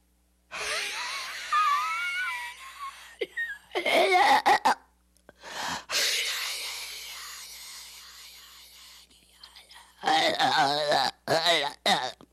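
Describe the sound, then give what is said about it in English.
A voice imitates the devil's breathing described in Blatty's book, done very close to the microphone: long, harsh rasping exhalations with a strained, groaning tone, broken by short choking gasps, ending in a burst of quicker, forced, gagging breaths down to the last breath. “But Blatty says in the book it had an unearthly sound, the devil's breathing, that could be heard through the open door.”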